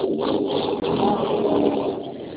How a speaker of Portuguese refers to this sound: Peraí. Carro saiu. Carro barulhento passou aqui.